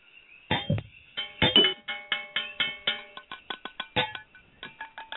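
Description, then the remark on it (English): Glasses clink together in a toast to the new Eastern Airlines, raised around a table one evening in a hotel in Old San Juan: a quick, irregular flurry of about a dozen bright taps, each leaving a high, ringing tone, with no voices over them. “To the Eastern people and friends like those around this table tonight, we raise our glass for making this happen.”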